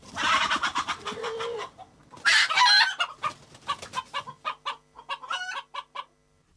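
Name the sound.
rooster clucking and crowing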